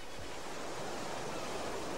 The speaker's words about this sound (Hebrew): זה ים.